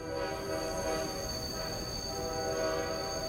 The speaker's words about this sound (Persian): از قطار پیاده شد. صدای همهمه مسافران و بلندگوی سکوی شماره 9 آمیخته با یکدیگر به گوش می رسید.